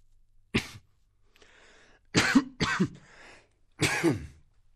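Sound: light coughing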